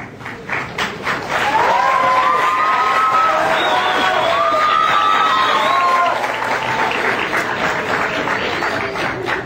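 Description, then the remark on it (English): A large audience in a very full auditorium cheers and applauds loudly as a speaker comes down, with dense clapping and a couple of rising whistles cutting through the steady roar of the crowd. “I hope that you won't cheer every time someone comes down here, please.”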